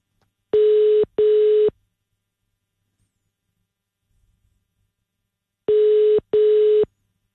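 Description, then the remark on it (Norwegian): A telephone ringback tone heard through the line: two short electronic buzzing rings in quick succession, a few seconds of silence, then another double ring, steady and fairly loud. “Nej, nu ringer den.”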